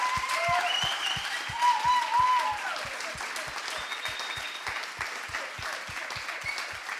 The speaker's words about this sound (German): Wer hätte gedacht vor 5 Jahren, dass wir so eine fantastische Band haben? Geben wir dem mal einen Applaus.